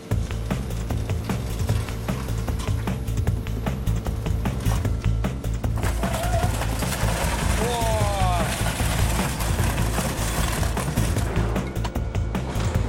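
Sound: car being crushed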